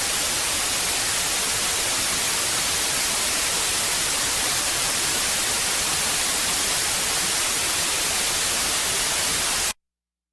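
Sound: white noise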